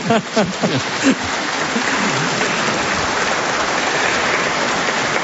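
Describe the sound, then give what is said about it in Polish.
An audience claps steadily for a speaker after a talk, in a dense, crackling wash of applause that holds at an even level throughout, with a voice briefly audible at the very start. “Jeszcze raz wielkie brawa i dziękujemy za to słowo i za także to zaangażowanie”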